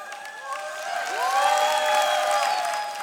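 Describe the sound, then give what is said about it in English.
An audience claps steadily for a man standing up among them, the applause swelling slightly and holding, with some cheering voices and whoops rising over the clapping. “What are we applauding here?”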